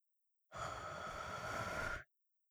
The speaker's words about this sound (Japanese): 敏感な亀さんに生温かい吐息。